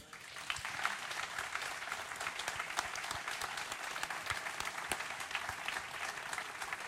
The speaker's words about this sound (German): Ralf, du hörst den Beifall. Wir senden ganz, ganz liebe, ganz, ganz herzliche Genesungswünsche an dich.